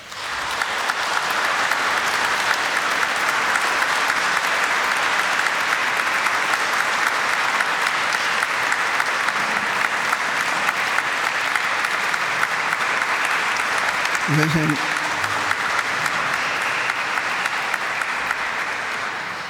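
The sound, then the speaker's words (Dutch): Sustained audience applause of thanks for the priests present, a dense steady wash of many hands clapping at an even loudness for about twenty seconds, with a brief voice or call briefly rising through it near the end. “Misschien kan dit ook nu, zoals het vorige week gebeurde in Brussel, door een dankbaar applaus voor de priesters die daar aanwezig waren, maar ook voor hen die hier vandaag aanwezig zijn.”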